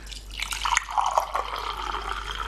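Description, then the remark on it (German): Fresh tea poured into a cup, a steady trickling stream with a faintly rising, filling tone, lasting a couple of seconds with no one talking. “du gießt mir gerade neuen Tee ein.”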